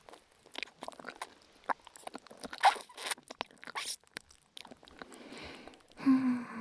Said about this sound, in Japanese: ラーメンの時よりはツルツルしてるからチュルンっていけるけど、すするのは難しいですね。